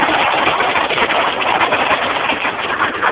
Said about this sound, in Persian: امروز 27 فروردین تگرگ بی سابقه ای که در تهران داره میاد باعث آب گرفتگی شدید خیابون ها.